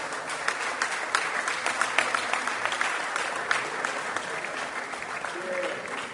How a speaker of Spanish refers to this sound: Ahora sí, por último llamamos a representantes del departamento de Tacuarembó, el coordinador de alcaldes Augusto de Sousa, los alcaldes presentes. Un gran aplauso para Tacuarembó.